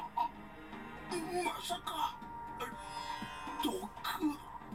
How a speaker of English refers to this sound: The man suddenly gripped his chest and coughed up tons of blood.